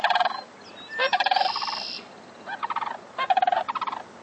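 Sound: sandhill cranes calling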